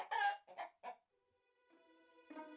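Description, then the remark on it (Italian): A hen clucks after laying an egg, in short, loud bursts, three quick calls followed by a longer drawn-out cackle with a tonal, ringing quality, alone. “«Salve, mia bellissima gallina! Deponi, grazie!» disse il gigante e la gallina depose un uovo d'oro.”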